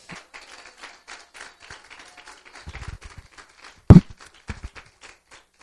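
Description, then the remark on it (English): An audience claps their hands for the Lord in a steady, overlapping rhythm, with a louder thump near the end and scattered percussive taps throughout; no one speaks. “Clap your hands for the Lord.”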